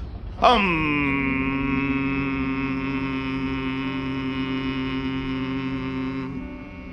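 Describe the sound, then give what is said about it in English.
A soothing hum starts abruptly and holds one steady, rich pitch for about six seconds, fairly loud and unwavering, then stops cleanly, with no talking over it. “Don't stop that marvelous, soothing humming.”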